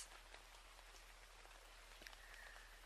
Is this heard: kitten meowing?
no